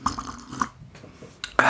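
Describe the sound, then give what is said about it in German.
A few small wet clicks and drips, then a loud, airy slurp as someone takes a sip of hot mulled wine (Glühwein), with no talking. “Ich brauche noch einen Schluck Glühwein.”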